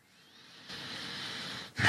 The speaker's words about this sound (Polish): Ten oddech jest dobrym znakiem.